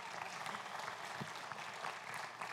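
A crowd claps steadily, a dense wash of overlapping hand claps with no pauses, holding an even loudness from start to finish with no voices on top.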